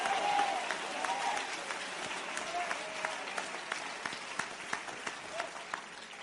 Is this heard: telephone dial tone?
no